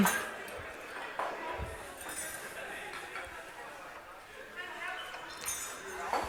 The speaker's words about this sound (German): Oh. Hier füllen sich schon die Gläser mit Getränken.